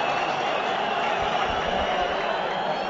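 stadium crowd applauding

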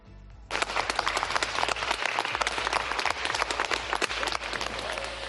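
hospital staff applauding

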